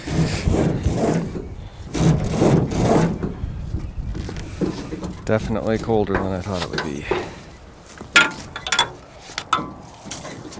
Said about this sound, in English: With the wind blowing off Holmes Lake, it feels about 0 degrees as I record an aluminum boat and yellow canoe being dragged off a trailer.